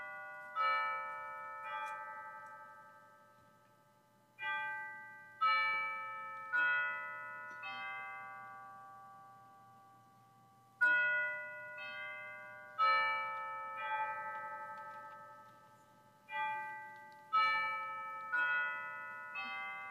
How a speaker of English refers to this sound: let us hear the chiming of the hour and then our prelude with the lighting of the council.